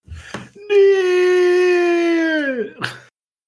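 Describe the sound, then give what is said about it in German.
A timid, put-on scream of zombie fright, made at the start as a joke: one held, mid-pitched vocal wail lasting about two seconds, fairly steady before sagging downward at the end, with short breathy sounds just before and after. “Ich muss sagen, das war ein sehr zaghafter Schrei.”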